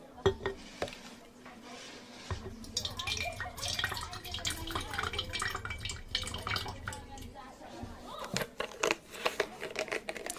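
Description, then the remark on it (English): Liquid splashes and gurgles steadily into a glass for several seconds, broken by a few light clinks of glass, with faint murmuring voices underneath. “Well, may as well just go for another glass.”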